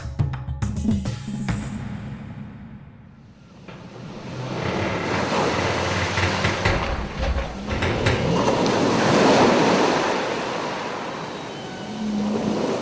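Ocean waves wash onto a shore in broad, rolling surges, swelling and receding over several seconds, with a rushing hiss of surf and some wind noise buffeting the microphone. No one speaks.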